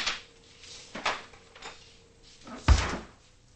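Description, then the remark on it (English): A refrigerator door in a large kitchen is handled with a few soft clicks and rustles as a woman puts two salads inside, then swung shut with a solid thud near the end, over a faint steady hum. No one speaks. “Later in her large kitchen, Adrian puts two salads in the refrigerator”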